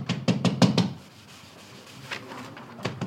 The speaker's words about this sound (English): Baer then taps and rubs the paper against the wall with a special talcum powder dispenser. The white powder passes through his tiny pinholes.